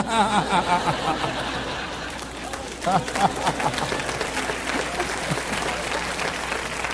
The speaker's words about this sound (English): You applaud for them, huh?